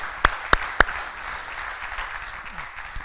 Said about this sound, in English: Isn't it good to be in this house together? You can applaud for that too, yes?